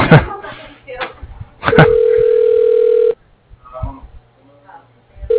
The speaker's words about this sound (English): Mine says it's ringing, but I don't believe it.